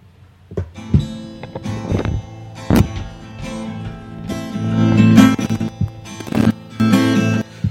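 A theme tune plays at full volume: sustained tonal music punctuated by sharp, rhythmic percussive hits, with no voices over it.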